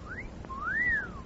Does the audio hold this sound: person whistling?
yes